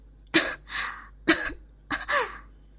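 coughing

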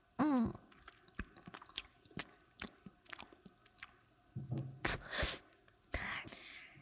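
chewing a banana

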